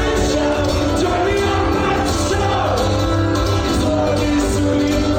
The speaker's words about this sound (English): It's from a cell phone at the third level of a concert venue. Right, but you can hear the crowd, and you can You can kind of get an idea of kind of what he sounded like on stage. That's good. And you hear when it kicks in. Entire crowd singing.